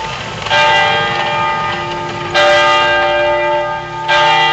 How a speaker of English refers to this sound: For us here in Oakland, we are right across the street from a church that plays bells at different times of the day. Those bells remind me of the bells that called my ancestors 6 a.m. to wake up and to begin prayer, and at noon to stop and to eat.